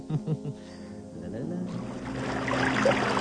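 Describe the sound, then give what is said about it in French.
River water flows with a steady, rushing wash that swells louder over a few seconds, after a brief voiced murmur at the start. “La rivière coule bien, là.”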